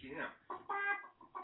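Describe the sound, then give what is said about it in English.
A person imitates a clucking chicken in a few short, squawky vocal bursts with a harmonic, nasal tone, ending in a sudden loud burst. “Chicken out. I didn't do chicken out”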